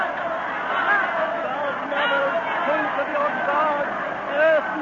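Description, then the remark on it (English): A dense, panicked mob of many voices shouts and clamors all at once in terror, a loud, continuous roar of overlapping cries with no single speaker standing out. “We can't move for the mob. They're crazy with terror.”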